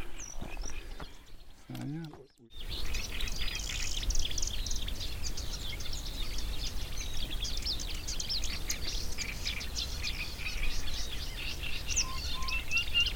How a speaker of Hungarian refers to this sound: Egy nádas mellett állunk. És amikor a Tiszatónál voltunk, akkor is ugyanez a nádi poszáta volt hallható.